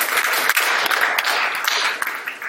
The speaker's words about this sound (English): And over the last 2 years since we started, we've been able to celebrate with 8 people that have gone public with their faith through believers' baptism. Yeah, we can clap for that. That's awesome.